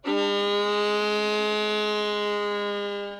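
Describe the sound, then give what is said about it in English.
A violin plays a single long, steady bowed note meant to imitate a cow's moo in a song about a little milk cow, a bright, buzzy tone that holds its pitch for about three seconds before fading slightly, with no talking. “When I sing my little milk cow, could you make the sound of a cow?”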